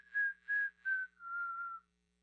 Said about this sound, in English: And what was a shofar sound now is like a little whistle.